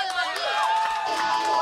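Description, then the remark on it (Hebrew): A crowd cheers and shouts excitedly, with clapping mixed into the loud, continuous burst of voices throughout the short moment, applauding on cue for the hedgehog who loved to dance in a story being told. “כפיים! זה הקיפוד שאהב לרקוד!”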